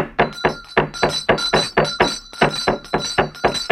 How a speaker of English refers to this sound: Now, hang on to that bell pull and ring hard while I hammer.